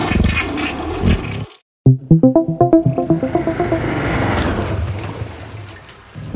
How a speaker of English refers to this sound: You just jiggle the handle like this, right? And then you flush.